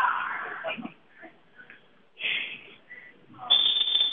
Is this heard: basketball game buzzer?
yes